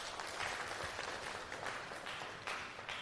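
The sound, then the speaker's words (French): A crowd, including members of the Maradi regional youth council, the Scouts of Niger movement, and Maradi civil society and union collectives, applauds itself steadily: a dense wash of many hands clapping at once with no clear individual beats, holding an even loudness for a few seconds without any voices. “Applaudissez pour vous, s'il vous plaît.”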